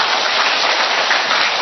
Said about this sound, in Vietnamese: Rồi, chúng ta một tràng pháo tay thật lớn thưa anh chị em.